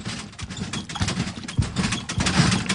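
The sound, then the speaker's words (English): Water sloshes back and forth in a tank that is being pushed and rocked to make small waves, in a rolling, uneven rhythm, with soft low thumps and a steady wash of splashy noise over the whole stretch. No one speaks. “just push the entire tank a little bit, you know what I mean, like rock it a Make little it bit.”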